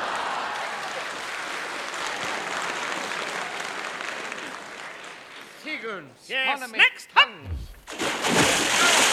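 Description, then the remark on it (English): A sustained, noisy splashing of water fills the first few seconds as a person is thrown off a boat into the water, churning it, followed by sharp vocal cries and another burst of splashing. “I saw you throw little … into the water.”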